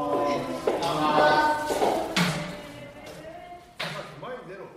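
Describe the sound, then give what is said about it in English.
Sumo wrestlers stomp their feet in the ring, performing the shiko, the traditional stomp that starts practice, left foot then right foot: four heavy, dull thuds land at uneven intervals, with a steady murmur of voices and crowd noise underneath. “The shiko is a traditional way to start the practice. The wrestlers kind of stomp with their left foot, then their right foot.”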